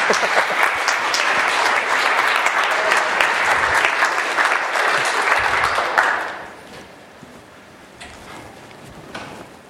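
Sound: audience clapping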